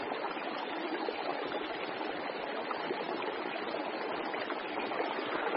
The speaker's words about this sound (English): The water flowing out of the Villa Luz cave in Mexico is actually coloured white with sulfuric acid.